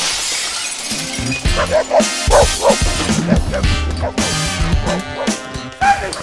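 animal, dog barking and yipping

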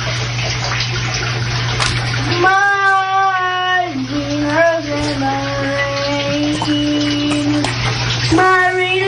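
household object, child singing

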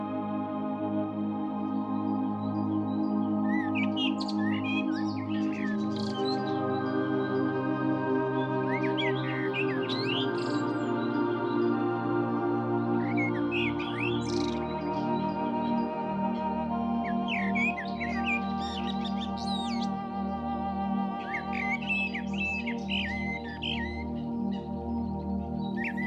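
bird, blackbird singing

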